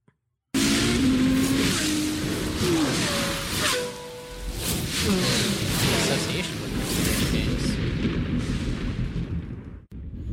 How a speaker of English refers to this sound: It's a little loud when it starts because engine noises. Cars. So just be careful with that.